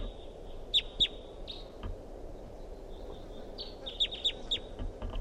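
wild bird calling

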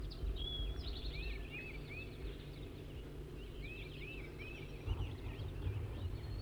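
wild male bird calling

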